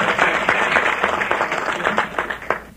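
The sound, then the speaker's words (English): A banquet audience applauds steadily, many hands clapping in a dense, continuous patter with a few sharper individual claps standing out, holding at a fairly loud level throughout. “But I think there ought to be a great round of applause for you people because you make it possible.”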